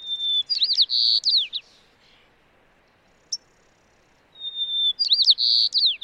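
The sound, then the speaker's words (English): A white-crowned sparrow sings two clear, high songs separated by a pause, each opening with a long whistled note that breaks into a rapid series of buzzy trills and chirps, loud against quiet background. “In fact, some birds, like white-crowned sparrows, reverted to a gentler volume, singing more softly and with more information in their songs than when they had to compete with the incessant roar of urban life.”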